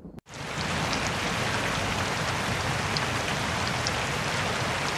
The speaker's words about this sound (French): Et voilà, on entend le déluge. Il pleut depuis 40 jours, 40 nuits.